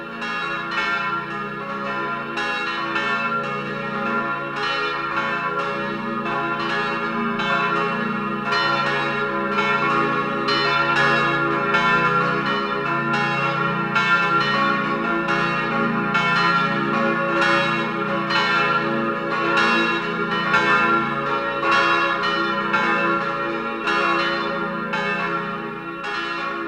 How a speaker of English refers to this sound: to the sound of the bells of the church of Muotatal, we end this program of Christmas carols in the languages of Switzerland.